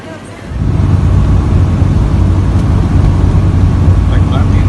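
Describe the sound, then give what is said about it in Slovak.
A Russian hovercraft engine roars to life after a brief quieter moment, then holds a loud, steady, low-pitched drone with a rumbling hum that continues unbroken to the end, as the hovercraft crosses Lake Baikal to Olkhon Island. “Malo by to byť ruské vznášadlo a ideme teda sa prepraviť na ostrov Olchon.”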